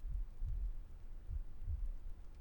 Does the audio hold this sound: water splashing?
no